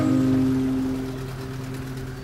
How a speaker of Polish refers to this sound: Troszeczkę to jest dwusuw, troszeczkę hałasuje.